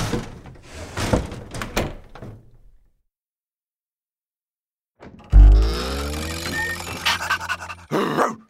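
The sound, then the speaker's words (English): A big dog pants in rapid, breathy bursts inside a house for a few seconds, then falls silent; after a pause a loud, drawn-out tonal sound rings out, with a thud or door noise at the end. “And Toby is in our house! Eek! The big dog is here!”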